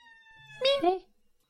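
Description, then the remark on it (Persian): A cat, Mrs Norris, lets out one drawn-out meow with a wavering, bending pitch. It swells loudly in the middle, then quickly trails off into quiet, after a faint steady tone at the start. “کورکشنکمون اومد خانم نوریس.”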